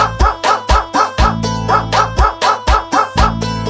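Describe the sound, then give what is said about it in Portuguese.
A big dog's deep barks repeat in a steady, evenly timed rhythm, about three per second, loud over a low, sustained bass beat, with no voices. “Cuidado, cuidado com o cachorrão.”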